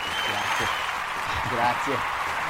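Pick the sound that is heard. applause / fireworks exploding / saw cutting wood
applause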